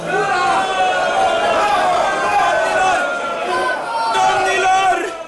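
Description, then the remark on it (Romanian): A crowd shouting loudly and continuously, many voices overlapping in a dense, raucous roar that holds steady for several seconds with swelling cries rising above it. “Vă rog frumos, nu mai strigați așa! Nu este distins să țipați așa tare!”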